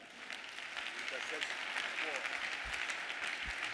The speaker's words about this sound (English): Can you believe this? It's a good place to clap your hands.